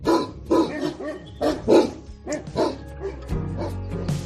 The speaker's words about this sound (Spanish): Sí, has escuchado el ladrido ronco pero noble de un mastín en la Sierra Norte de Guadalajara. Los mastines son los ayudantes fieles y los mejores, los más efectivos para los ganaderos contra el lobo.